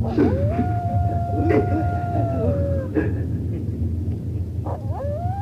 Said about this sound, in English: And the classic wolf sound, of course, I remember that from Demon of the Night, the Hall of Fantasy.